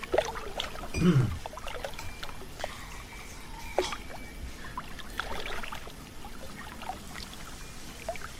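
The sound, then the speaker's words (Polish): Water is pumped out of a container in a kitchen, with a gurgling surge early on, then irregular splashes, clicks and trickling sounds, moderately loud, with no talking. “Dziwne odgłosy wody pompowanej z pojemnika.”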